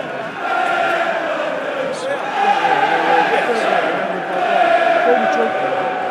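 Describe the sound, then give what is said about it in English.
A large football stadium home crowd chants together in a loud, sustained roar of many voices, swelling in waves without pause across the whole stretch, during a match between Wimbledon and the Lions. “Let's put the home crowd in good voice.”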